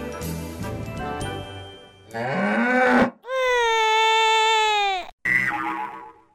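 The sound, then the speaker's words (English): Quiz buzzers are tested one after another, each a different novelty sound: a bright jangly tone, a rising springy boing, a long loud moo-like honk, then a short final blast. No one speaks. “So, first of all, can all players test their buzzers?”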